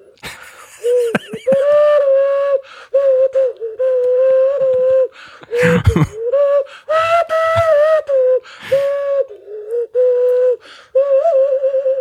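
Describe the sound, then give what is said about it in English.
A hand flute whistled through cupped hands plays a halting tune of hollow, hooting sustained notes, fairly loud, with short breathy puffs and pauses between phrases. “I'm just glad that you hung on to that, the joy of an 11-year-old boy that gets from playing the hand flute.”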